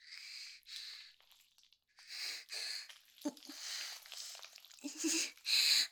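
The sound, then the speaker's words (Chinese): A run of heavy, breathy panting, about eight hissing breaths in an uneven rhythm, a few carrying a soft voiced moan or gasp, the last ones louder and sharper. “不要发出奇怪的喘气声了。”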